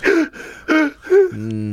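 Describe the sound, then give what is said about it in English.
A voice imitates two people breathing heavily while chasing, with three loud, raspy breath bursts in quick succession followed by a short voiced groan, unaccompanied. “When he was chasing them, they both were breathing heavy.”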